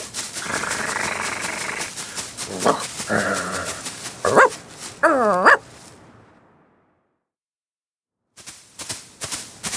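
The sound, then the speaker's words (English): A dog named Lucky barks in a quick series of sharp, excited yaps and yips. After a short pause, a run of light clicking taps follows. “Good dog!”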